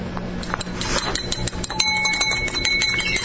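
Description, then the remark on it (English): A spoon stirs briskly in a cup, mixing something at home, making a rapid, uneven run of bright clinks with a high ringing tone that lingers between strikes. No one speaks. “I was mixing something with a spoon in a cup, but that's fine.”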